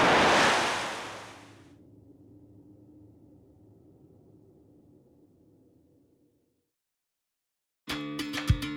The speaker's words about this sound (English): No! It's there! The water is gathering, rising, growing. Something enormous is emerging from the river!